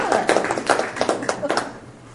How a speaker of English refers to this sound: Lots of applause. We like that. Applause.